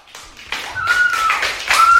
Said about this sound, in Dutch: Een radio, helemaal goed. Applaus.